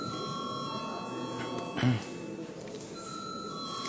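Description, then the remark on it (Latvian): A parliament chamber bell, rung before a vote on the energy efficiency bill in its first reading, sounds as a steady, continuous electric tone for several seconds, with faint background murmur and a brief soft thump partway through. “Paldies, lūdzu zvanu.”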